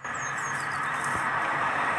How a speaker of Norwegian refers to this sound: Og der kommer bil.